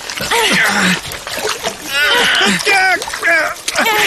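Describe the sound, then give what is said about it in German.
Steady sloshing and splashing of water as people wade through rising water reaching almost to their knees, continuing under excited, strained voices calling out. “Das Wasser steigt immer mehr und reicht uns schon fast bis zu den Knien.”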